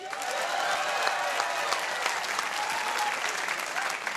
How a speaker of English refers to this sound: Now, to be clear, I instigated that applause for the 300th episode, not for me. But now, this is the applause for me.